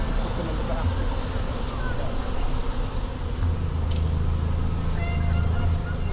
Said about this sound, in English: Oh, they're leaving. They're leaving. They're leaving? Yeah, we might not be able to get them. The bees were leaving, drifting over the patio of a nearby restaurant.